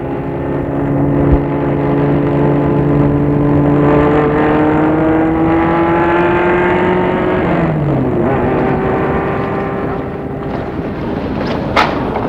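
A car engine hums steadily while driving, its droning tone dipping lower near the end as the car slows and stops in front of a house. No voices are heard.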